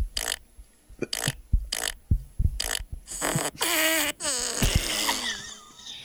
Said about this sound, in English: The only reason I'm doing this story is so I can use this app again. This is like twice this week I think I've gotten to use my fart app, and it's only Tuesday.